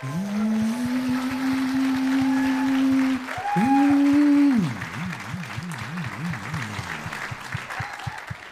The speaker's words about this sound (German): Deswegen kann das nicht von uns einfach bestimmt werden, wo am meisten Applaus zu hören war. Sondern wir brauchen ein professionelles Applausometer.